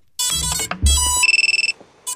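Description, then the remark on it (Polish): A drone's startup chime after it is switched on, signaling it is ready to fly: a bright electronic melody with a low hum underneath, then a rapid run of about ten high beeps, ending with one short final tone. No one speaks. “Taki dźwięk wydaje dron po uruchomieniu.”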